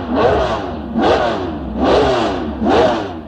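A racing car engine revs hard four times in quick succession, each loud burst rising sharply in pitch before dropping back, with no one talking.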